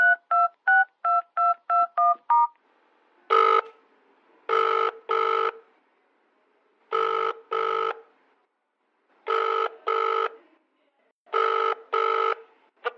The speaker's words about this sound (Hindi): दो तीन बार कॉल कर दिया पर कोई उठाता ही नहीं, मुझे फिक्र हो रही है, सब ठीक तो है ना?